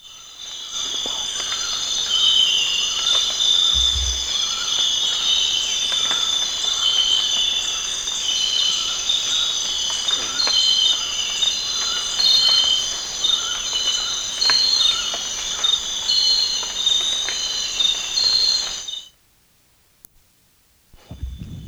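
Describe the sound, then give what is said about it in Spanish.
A dense chorus of crickets chirps in the morning in a loud, steady, high-pitched trill with faint clicks underneath, then cuts off abruptly near the end. No one speaks. “Acabo de grabar una cosa que está como en tercer plano, no tengo ni idea qué es, pero es difícil detectarlo, detrás de los grillos y todas las cosas que están sonando al principio.”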